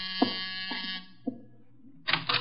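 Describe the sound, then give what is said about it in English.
A harsh electric doorbell buzzer rings in a steady, raspy drone for about a second as visitor Charles Porter arrives at the door, stops, then sounds again in a second short burst, with a few soft thumps in between. “The door, Archie.”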